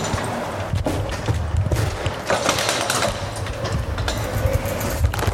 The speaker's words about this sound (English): The thing is, though, as you might be able to hear, I also have my bike. Click. There goes the door. As I open it, this is going to be tricky to manage to get this bike out of the door.